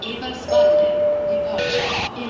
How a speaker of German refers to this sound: So, mein Lieber, heute üben wir mal hier am Bahnhof.